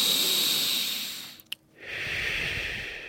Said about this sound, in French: On peut fermer les yeux, on va simplement respirer quelques fois.